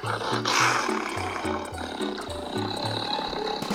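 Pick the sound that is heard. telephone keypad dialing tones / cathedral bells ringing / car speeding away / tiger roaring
tiger roaring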